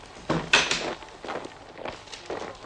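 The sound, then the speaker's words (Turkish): Heavy footsteps thud in an uneven rhythm, several steps at moderate loudness with short gaps between them, like a group of soldiers walking nearby. No one speaks. “Bak dinle. Askerler. Buraya geliyorlar.”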